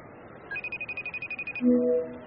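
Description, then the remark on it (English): A quick run of about a dozen evenly spaced electronic beeps as a phone number is dialed to call a father, followed by a short, lower-pitched tone. Fairly clear, with no talking. “I gotta call my dad.”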